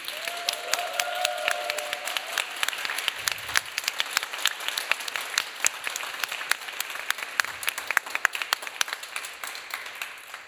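Sustained audience applause, a dense wash of many hands clapping steadily for about ten seconds, with a brief whistle-like tone near the start and no talking.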